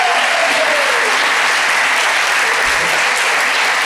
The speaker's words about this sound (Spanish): Un aplauso para ellos, gracias.